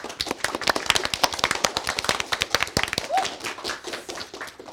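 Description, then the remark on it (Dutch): An audience applauds the students of the Metis Montessori Lyceum before a debate on climate change: dense rapid handclaps forming a steady crackling wash that keeps up throughout and thins slightly toward the end, with a brief whistle or cheer partway through. “Geef een groot applaus voor de leerlingen van het Metis Montessori Lyceum.”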